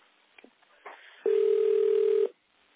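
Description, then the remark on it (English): A telephone ringtone sounds as one loud, steady electronic tone lasting about a second, heard over a thin, muffled investor conference call line after a few faint clicks and rustles. No one speaks. “Is the ringtone coming from the phone around you or from your phone?”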